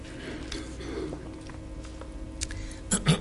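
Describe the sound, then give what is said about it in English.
A quiet sip of water, with a few soft slurping and swallowing sounds near the end, over faint room noise with no talking. “I'm going to take a sip of water here.”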